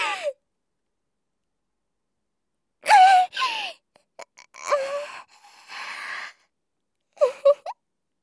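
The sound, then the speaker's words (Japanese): A voice imitates farts: a quick burst, a pause, then a run of short squeaky, breathy toots rising and falling in pitch, ending with two sharp little squeaks. “ほら、次のおならがもう出ちゃいますよ。”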